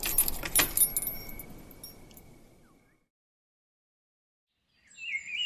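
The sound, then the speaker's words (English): Brass keys jangle in a quick burst of metallic clinks that fades over a couple of seconds, followed by silence and then a few bird chirps, as someone finishes locking up the Kaaba. “Someone who had just finished locking up the Kaaba with his brass keys.”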